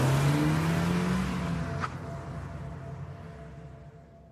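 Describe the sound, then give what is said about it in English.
A parked car's engine rumbles and revs up as the car pulls away from across the street, the steady motor noise slowly fading. A brief click sounds partway through, and no one speaks. “ran to his parked car across the street and didn't even so much as turn and look back, no matter how much I called for him.”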